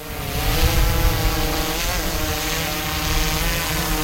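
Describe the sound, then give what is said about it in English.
A steady, powerful whirring buzz of a Noble County Sheriff's Department police drone's propellers in flight, a drone not much larger than a backpack, continuous, with a sustained tonal hum and broad noise holding level throughout, no voices. “That powerful whirring sound is coming from one of the Noble County Sheriff's Department's two drones.”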